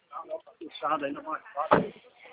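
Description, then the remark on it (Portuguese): A door bangs shut once, a single short thud midway through, with people talking continuously around it. “Cara, você bateu lá na porta?”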